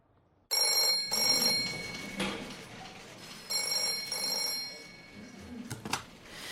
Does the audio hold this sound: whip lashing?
no